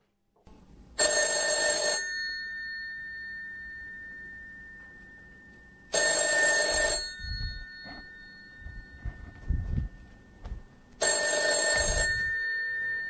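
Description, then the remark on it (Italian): An old-fashioned telephone bell rings loudly in three separate bursts, each about a second long, with long pauses in between and no one answering. Faint low knocks sound between the later rings. “Niente, nulla da fare. I telefoni non ci sono più.”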